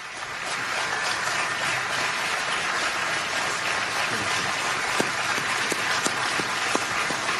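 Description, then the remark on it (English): Sustained applause from an audience in the Rose Garden rising to its feet for nominee Judge Amy Coney Barrett, a dense steady wash of many hands clapping at an even loudness for several seconds, with a few sharper individual claps standing out near the end. “An extended round of applause for the nominee.”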